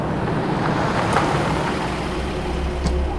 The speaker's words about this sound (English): He looked back and saw two headlights coming his way, lights that morphed into a full pickup truck as it drew closer.